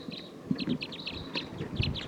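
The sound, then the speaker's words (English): A wild flock of about 14 birds in the trees, many of them bright red males along with some females, calls continuously, many overlapping high chirps and short whistled notes in quick irregular bursts, moderately loud, with no talking. “This is recording wild bird. This is a wild flock.”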